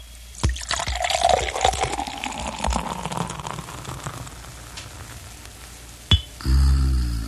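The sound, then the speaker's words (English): A sharp pop of an Erin Brew 1002 beer bottle cap, then the beer pours out with a bubbling, gurgling rush that fades into soft fizzing over several seconds, ending with a bright clink. “Remember, for real enjoyment, folks, all you have to do is pop a cap.”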